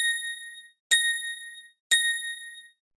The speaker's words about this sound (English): Hi, it's Tinkerbell. At the third bell, the time will be 7 o'clock and 20 seconds.